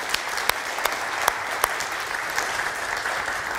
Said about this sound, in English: Certainly want to thank Dallas and the choir and the music team and all that they've done already. Why don't we give them a hand of applause, even though they've left already?